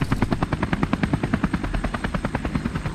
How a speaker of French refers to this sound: Vous voulez piloter un hélicoptère?